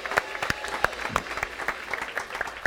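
Steady applause from an audience, many hands clapping at once in a dense, even patter with sharper individual claps popping out, filling the room without any talking.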